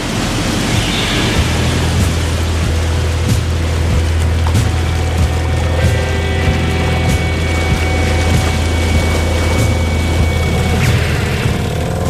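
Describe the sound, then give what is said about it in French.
A boat engine drones steadily with a deep, constant low hum, layered over broad wash of water and wind noise as the boat slowly moves away from Île Saint-Joseph at sea; no voices. “On s'éloigne tout doucement de l'île Saint-Joseph grâce au bateau”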